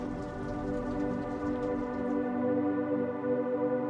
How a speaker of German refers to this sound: Am Schluss darfst du es dir in der Bibliothek gemütlich machen und dich vom Regen in einen friedlichen Schlaf begleiten lassen.